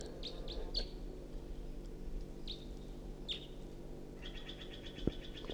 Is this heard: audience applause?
no